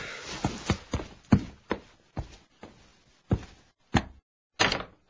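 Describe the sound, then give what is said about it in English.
Someone pounds heavily on a door at 5:30 in the morning, about ten loud thuds in an uneven rhythm that slows toward the end, with brief pauses between blows and no voices. “who's pounding at the door?”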